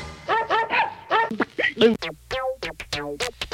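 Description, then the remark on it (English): A person imitates a dog with a rapid string of voiced barks and yips, fairly loud, tumbling over one another, then continuing as a quicker run of short, clipped yaps. “Come on, bark like a dog for me.”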